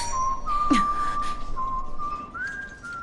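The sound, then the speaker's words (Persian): A person whistles a slow, steady tune with long held notes, clear, over a faint hiss of background noise, with no one speaking. “درست همون سوتی بود که برای مدت‌های زیادی تو کابوسمون می‌شنیدیم.”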